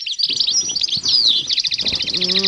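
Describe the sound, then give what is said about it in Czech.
Bright, rapid bird chirps and trills fill the air continuously, layered tweets overlapping at a steady moderate volume, with a soft, sustained warbling note rising near the end; gentle birdsong heard on waking in the morning. “Je to krása, když vás vzbudí jemný ptačí zpěv, který potichonku proniká do snu.”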